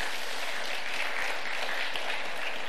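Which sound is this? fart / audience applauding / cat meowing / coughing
audience applauding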